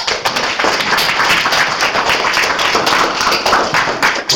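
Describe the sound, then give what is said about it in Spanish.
An audience applauds to welcome two speakers from the association Clásicos en Acción Automóvil, many hands clapping in a dense, continuous patter that stays loud and even throughout, with no voices standing out. “Les damos un aplauso.”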